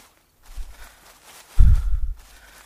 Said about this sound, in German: aber könntest du ein bisschen langsamer gehen? Deine Schritte sind viel größer als die meinen. Ich komme nicht so schnell hinterher.